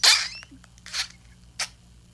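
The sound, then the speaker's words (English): Three short, airy squelching bursts, a fart noise made by squeezing a balloon filled with slime, with brief quiet gaps between them and no talking. “I use my balloon, I have slime in a balloon, so I use that and I just like squeeze.”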